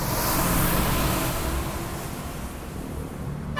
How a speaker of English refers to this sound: Jeepneys are the most popular form of transport for Manila's poor, but these brightly coloured buses also leave vast plumes of diesel smoke in their wake.